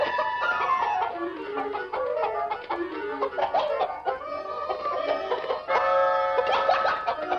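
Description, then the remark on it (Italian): A chicken clucks and squawks busily and almost without pause, an agitated stream of overlapping calls with a few sharper outbursts, and no one speaking. “Signora Noat, il suo pollo ha fatto ancora dei guai.”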